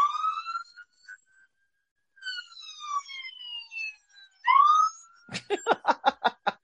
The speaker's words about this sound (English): We'll let this ambulance pass.